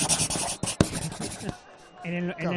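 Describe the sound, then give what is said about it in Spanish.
Scratchy rubbing of a pen being fiddled with against paper in quick irregular strokes, followed by a brief pause and then a voice starting to speak. “No sé qué hacer con el boli.”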